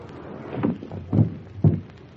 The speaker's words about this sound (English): No, this'll be all right. Won't it float off? What do you think I'm pulling the boat up on shore for?